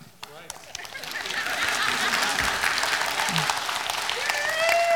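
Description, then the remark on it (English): An audience breaks into applause, many hands clapping in a dense, steady wash that swells and holds loud, with a few faint voices mixed in. “And listen, you want to clap? You can.”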